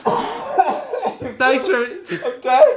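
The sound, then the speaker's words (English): A man coughs several times in harsh bursts, with voiced, throaty edges between them, loud with no other sounds around. “Do you want to cough?”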